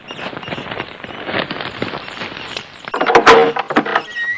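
door being opened

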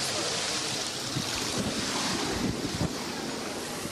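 water flowing

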